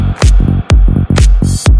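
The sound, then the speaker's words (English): A loud electronic beat with sharp, bright clap hits landing over deep booming kicks in the drop of a track being produced, repeating in a quick, slightly uneven rhythm with a thin high whine on top. “Here comes the clap.”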